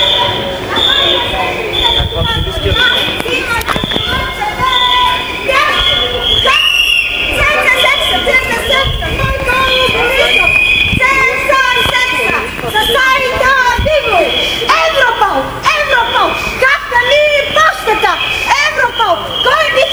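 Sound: street protest crowd chanting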